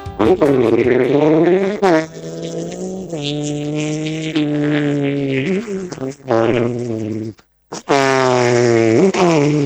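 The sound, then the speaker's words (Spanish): A voice imitates a rocket inside a bag with a loud, buzzy, rumbling drone whose pitch rises and dips in waves, likened to a Turismo Carretera race car with a broken exhaust, running almost continuously with one brief pause near the end. “No sé por qué le salió como un cohete adentro de una pero bolsa.”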